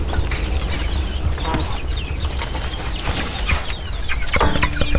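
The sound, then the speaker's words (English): A flock of Cornish chickens clucks and chatters continuously, with many short overlapping calls over a steady low background rumble. No one speaks. “So you're saying you want to wait with the Cornish? Yeah, let's let the Cornish get a bit bigger.”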